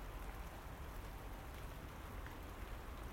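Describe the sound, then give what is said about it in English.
Steady rain patters on a hard surface on a windy, dreich but mild late-November morning, a dense, continuous hiss with soft low rumble underneath, fairly quiet and unchanging throughout with no voices. “Wind and rain, wind and rain.”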